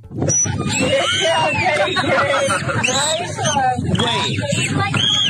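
A high human squeal is followed by a run of sweeping, squeaky dolphin whistles that rise and fall in pitch, heard over a steady bed of crowd chatter and background noise.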